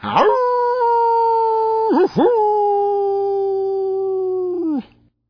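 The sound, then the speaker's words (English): A wolf howls twice, loudly: a short opening howl, then a long sustained one that holds a steady pitch before sliding down and fading out. No voices. “That's when along came the big bad wolf.”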